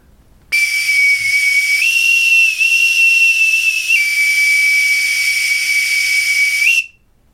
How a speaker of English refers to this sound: Blow the Oscar Mayer weenie whistle because the bosun's whistle in here doesn't work.